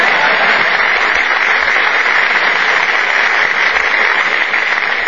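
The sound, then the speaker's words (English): Steady, sustained applause from an audience, a dense wash of many hands clapping at an even loudness for the whole stretch, with no talking over it. “If you want to applaud, I'll wait.”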